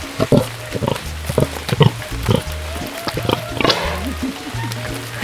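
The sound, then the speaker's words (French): A pig on a pig farm grunts over and over while being scratched, short low snorts coming in an uneven rhythm, with faint rustling and shuffling in between. “son élevage de cochons heureux”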